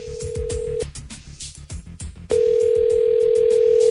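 telephone dial tone

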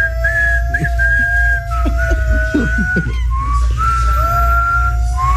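person whistling

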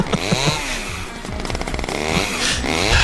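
chainsaw running

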